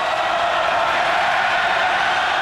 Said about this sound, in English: Canada beats the United States in the gold medal ice hockey game, and the crowd mixes the Canadian anthem with the cheers.